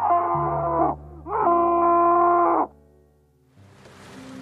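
man screaming

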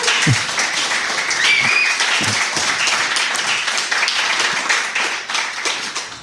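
audience clapping

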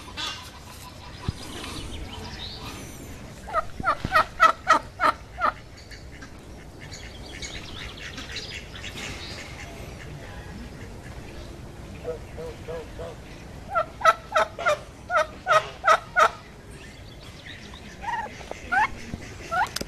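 turkey gobbling

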